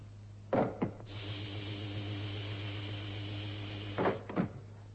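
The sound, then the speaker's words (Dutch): A cabin door is opened from an airlock with a pair of sharp clunks, a steady whirring slide for a few seconds, then two more clunks as it stops, all over a low constant hum with no voices. “Ik maak nou de deur van de cabine open.”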